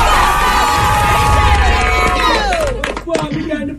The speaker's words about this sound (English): You know, we got the squad from Alexander Graham in the building, and they're ready to do another cheer for you. Let's go, ladies.